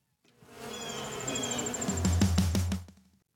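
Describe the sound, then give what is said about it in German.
A short transition effect made on a mixing desk: a buzzing, insect-like drone with a thin high whine swells up, then a run of quick rhythmic thumps over a low rumble before it cuts off. No speech. “Das war mein Versuch, mit meinem Mischpult einen Übergang herzustellen.”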